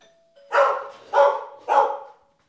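A dog named Poa barks three times in quick, evenly spaced, loud bursts as an Uber Eats delivery driver comes to the door with an order of fries, with no one talking.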